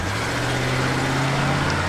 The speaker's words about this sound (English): Here come two sounds, car and a tiger. Really not so very far apart, actually. They both growl and rumble. But can you hear the difference? Tiger. Car.